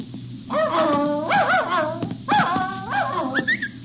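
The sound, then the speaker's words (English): A runaway dog whimpers and yips near a campus bell tower in the fog, in a string of high, wavering whines, each rising and falling in pitch, repeated several times with brief pauses between, loud and alone with a low steady hum beneath. “You're a nice dog.”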